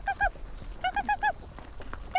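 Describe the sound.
A Sami shaman's vocal call to feed a reindeer herd: short, nasal, honk-like cries repeated in quick bursts, two at first, then four in a steady rhythm, and one more at the end.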